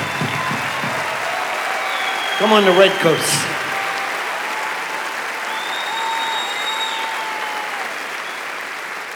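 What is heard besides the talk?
audience applause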